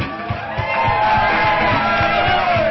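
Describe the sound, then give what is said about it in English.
A crowd of people standing in the hall of a club cheers and shouts together in a sustained, loud roar, with individual whoops and yells rising above the steady wash of voices. “Even you people stuck in the hall. Let's hear it from the people in the hall.”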